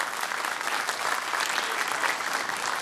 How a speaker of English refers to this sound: Give Jesus a hand clap of praise this morning. Amen.